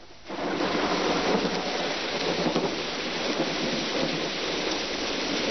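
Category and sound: nature, heavy rain with thunder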